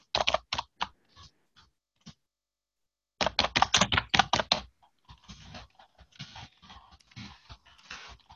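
Close keyboard typing in uneven bursts: a few quick keystrokes, a pause, then a fast loud run of clacks followed by steadier, softer tapping. No one speaks.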